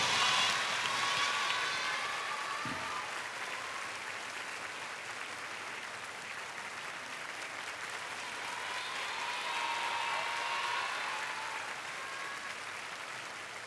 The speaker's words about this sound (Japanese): それじゃあ、こうやってわざわざ駆けつけてくれた K に大きな拍手を。ありがとう、K。